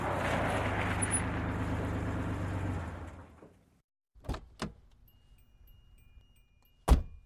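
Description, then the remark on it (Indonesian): A taxi's engine idles and winds down to a stop in front of a man, then after a short quiet a couple of clicks and a solid door slam as the taxi driver gets out, with a low hum lingering. “Saat pria itu tengah meneguk kopinya, sebuah mobil taksi berhenti di depannya. Dan sopir taksi tersebut turun dari dalam mobil.”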